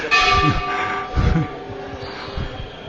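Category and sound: signal or alarm, bell ringing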